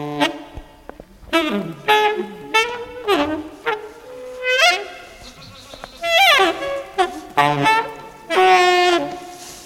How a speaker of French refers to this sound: On est où ici ? Dans la chèvrerie. C'est la maison des chèvres. C'est là qu'elles dorment.